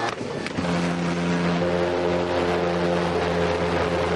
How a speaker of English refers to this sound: Nick uses his leaf blower to get the dangerous pulse jet started.